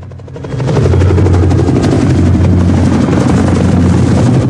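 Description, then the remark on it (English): A police helicopter thunders overhead in the night sky above Manhattan, shining a bright searchlight downward, its rotor blades beating out a rapid, steady chop over a deep engine drone that swells within the first second and then holds loud. “In the night sky, a police chopper flashes a bright searchlight downwards.”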